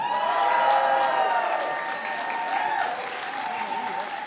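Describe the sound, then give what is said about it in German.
Sustained crowd applause at an event in Berlin, a dense steady patter of many hands clapping at a fairly loud, even level, with faint cheering tones mixed in throughout. “Applaus heute.”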